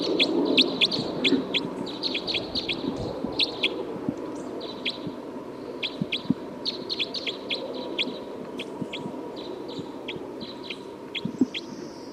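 A bird calls with a long run of short, high-pitched chirps, repeated in quick clusters throughout, heard over a steady low rumbling background noise.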